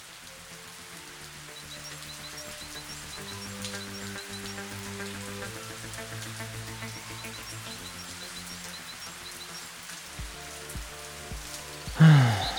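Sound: rain falling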